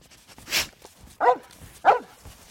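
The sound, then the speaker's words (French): A dog gives two short, sharp barks about half a second apart, after a brief breathy rustle, with nothing else much around. “Moi, je suis à la queue, je suis à la traîne, je suis avec le chien.”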